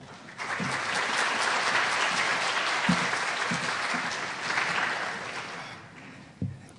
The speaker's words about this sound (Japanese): 拍手でお迎えしましょう。